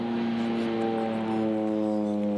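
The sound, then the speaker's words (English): A seaplane engine drones steadily overhead, a loud continuous propeller hum with a buzzing harmonic tone whose pitch sags slightly over a couple of seconds. No one speaks. “Do you hear that? It's an airplane, so what? My guess, it's a seaplane.”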